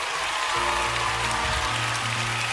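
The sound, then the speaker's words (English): A church audience claps together in praise of the pastor, a dense, steady wash of applause that holds at an even level throughout, with sustained low musical tones humming underneath. “you to get on your feet right now and give some hand clap of praise to the pastor of this church”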